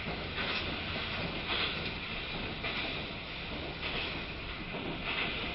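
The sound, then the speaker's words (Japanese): Steady rumble and hiss inside a moving JR West limited express train, the Super Kuroshio No. 21 bound for Shingū, with a faint rhythmic clatter of wheels recurring roughly every second; no voices, just continuous rolling noise at an even level. “4号車から6号車普通車指定席です。止まります駅と到着時刻のご案内は天王寺を発車ごとさせていただきます。”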